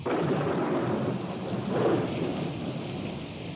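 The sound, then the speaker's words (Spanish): Steady rain pours down in a dense, continuous hiss, with a low rumble of thunder swelling briefly partway through. No voices are heard. “Esto, más la lluvia que empezó a caer en ese momento, fue lo que llevó a los topos a hacer el gran descubrimiento.”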